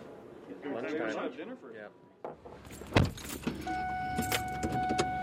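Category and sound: vehicle, getting into a truck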